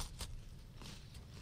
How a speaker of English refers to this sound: I think I need a second bite on this one.